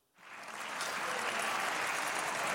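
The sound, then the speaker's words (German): Applause swells quickly from silence into a sustained, dense wash of clapping, with cheering voices mixed in as AfD members of the German Bundestag applaud after a Union motion to tighten migration policy wins a majority with AfD votes. It stays steady and loud to the end. “Die AfD aber jubelt.”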